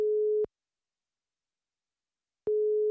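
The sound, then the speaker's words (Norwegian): Ringback tone of an outgoing phone call to Petter Skjerven: a steady, pure mid-pitched beep sounds, falls silent for about two seconds, then starts again. No voices. “Petter Skjerven er en gromming, og nå skal vi ringe han.”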